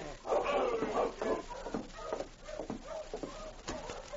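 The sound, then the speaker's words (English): A sled dog team arriving at a trapper's cabin at night in howling wind barks and yelps excitedly in quick, overlapping bursts, with shuffling movement underneath as the team comes closer. “He started as he heard the sound of a dog team.”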